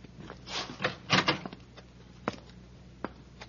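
The door of a room in a house is opened with a short burst of rattling and scraping from the latch and hinges, followed by a couple of sharp clicks; fairly quiet, with no talking.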